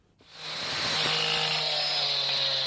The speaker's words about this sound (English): Disaster response teams have been sawing through trees uprooted by Cyclone Ampan, which have blocked access to coastal villages.